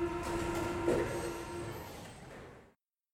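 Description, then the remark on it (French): A Paris metro train on line 2 rolls along with a steady rumble and a sustained whining hum, the noise holding evenly for a few seconds before cutting off abruptly. “Sur la ligne 2 du métro, les filles ont changé à Charles de Gaulle Étoile, une station immense.”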